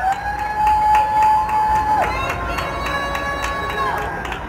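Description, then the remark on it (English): Neighbourhood cheering in New York City at the nightly 7 p.m. shift change, heard from a window, rises in a steady, fairly loud wash, threaded with long shrill whistles and peppered with sharp claps and bangs throughout. “Every night at 7 p.m., when shift changes, I lean out my window to cheer and to listen.”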